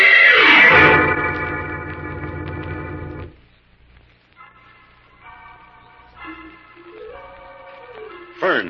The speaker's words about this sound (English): I picked up that wild music on the telepathic indicator again. Where do you suppose it's coming from, Jim? I'm not sure, Fern, but it sounds like gypsy music. Could be coming from that gypsy camp several miles out of town.